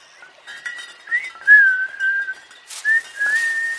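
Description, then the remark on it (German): A person whistles a short melodic tune, with clear sustained notes that glide between pitches, fairly loud, with a brief burst of background noise near the end. “Leute, da pfeift jemand.”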